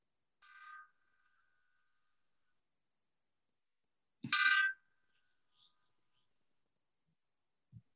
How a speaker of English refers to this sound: Start the intro, or I'm letting these bells ring.